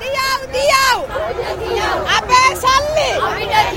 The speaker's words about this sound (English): We've just come to the other end of town and we're outside the train station in another part of Colombo, and there's huge crowds of people here. Some are waving black flags. They're protesting. It's been months of protest here in Sri Lanka.